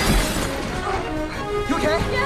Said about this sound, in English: Look out! A trolley crashes towards them.